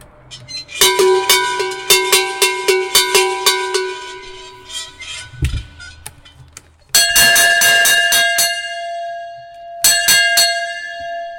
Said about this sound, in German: Was sind jetzt das für Gattungen Glocken, was wir jetzt da gekriegt haben? Also die erste, was du dazu geleitet hast, das ist eine Blechglocke, also eine Blechschelle. Und die zweite ist eine gegossene, wie man sagt, eine Speisglocke.